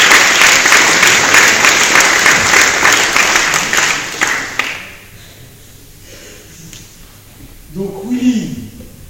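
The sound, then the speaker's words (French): An audience at an honours ceremony applauds a former deputy mayor as he is called up, a dense, steady crackle of many hands clapping for about four and a half seconds before it dies away, leaving quiet until a voice starts speaking at the end. “Et on peut applaudir également.”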